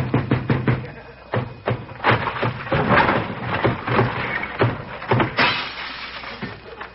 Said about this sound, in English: Open this door, I'll break it down.